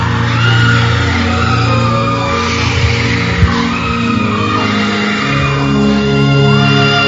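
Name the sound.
woman shouting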